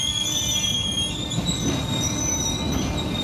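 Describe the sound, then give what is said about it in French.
A night train rolls along the rails with a steady low rumble and sustained high-pitched wheel squeal, continuous throughout, with no voices. “Le train ne marque que quelques minutes d'arrêt, le temps que la vingtaine de passagers descendent.”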